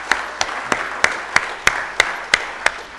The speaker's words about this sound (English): Let's really welcome him with a loud applause for joining God's people.